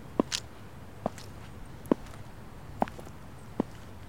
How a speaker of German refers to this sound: Komm, folge meinen Schritten zum Parkhaus. Nähere dich dem Beton-Porsche.